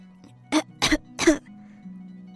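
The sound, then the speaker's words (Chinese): A voice imitates three quick, raspy coughs in succession, fairly loud, as a little monkey in a story starts coughing from the cold on a rainy night, over a faint steady background hum. “最后猴子还是被冻得咳嗽起来了，呱呱。”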